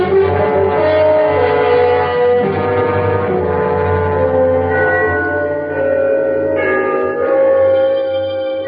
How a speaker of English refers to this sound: The bells of Trinity had just run the 3/4 hour. They are at the lower extremity of the city, but I always like to listen for them. It was 1/4 to midnight.